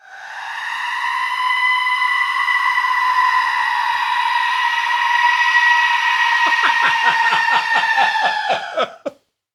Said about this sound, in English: Goat or was tennis that player? I say goat, but it sounds like me. It is a goat.